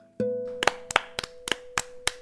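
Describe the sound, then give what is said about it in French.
Hands clap about six times in a steady, even rhythm, each clap a sharp, crisp smack, over a sustained low musical tone that holds underneath, as the story characters Mimine and Momo applaud. “Mimine et Momo applaudissent.”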